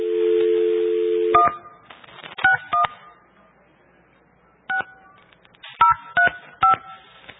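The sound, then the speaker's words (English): A steady dial tone gives way to a string of touch-tone beeps as a phone number is dialed, the keypresses coming in short uneven clusters with pauses between, clearly heard. “Okay, now we know their whole phone number.”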